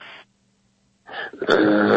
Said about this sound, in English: Yawn. That's a word.